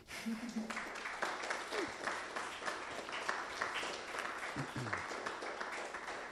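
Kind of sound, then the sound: crowd, audience applause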